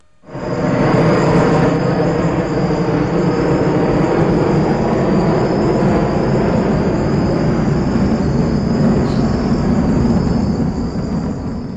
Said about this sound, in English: What happened was we were recording at this one spot in the Amazon, mid-Amazon, and a low-flying jet just flew over.